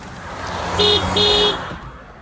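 two car horn honks

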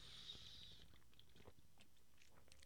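sipping beer

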